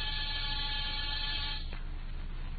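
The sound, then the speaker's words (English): An apartment door buzzer sounds one steady, harsh electric buzz for under two seconds, then cuts off abruptly, leaving a low background hum. No one speaks. “after disturbing seven occupants of seven different apartments and getting seven nasty comments, I rang one buzzer.”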